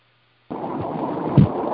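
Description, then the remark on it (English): After a moment of silence, a steady, muffled rumble of car driving noise comes through an unmuted line on a group phone call, low and continuous, with one brief louder thump near the end. “Someone shall be in a car. Yeah, sounds like they're driving.”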